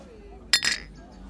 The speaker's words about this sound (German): Darauf müssen wir anstoßen.